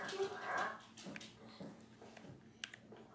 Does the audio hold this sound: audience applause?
no